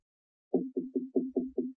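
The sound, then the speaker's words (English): Six firm knocks on a door at 7:30 in the morning, in a quick, steady rhythm, fairly muffled and moderately quiet, with no voices or other sounds around them. “Oh, I wondered who it was at the door 7:30 in the morning.”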